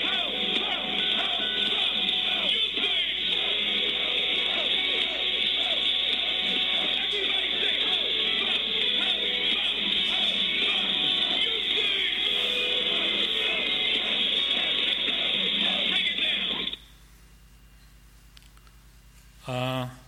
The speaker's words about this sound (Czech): A všichni nadšenci z 10 000 lidí na koncertu skandujou. Poslouchejte to dobře.